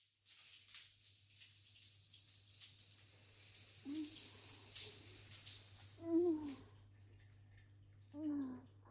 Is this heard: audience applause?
no